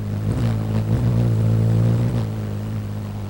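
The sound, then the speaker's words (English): A hummingbird's wings hum in flight, flapping about 40 times a second and shifting the air pressure: a steady, low buzzing tone with stacked harmonics that wavers slightly in pitch a few times. No voices are heard. “The rapidly shifting air pressure produces a harmonic set of sounds from low to high, creating that iconic musical hum.”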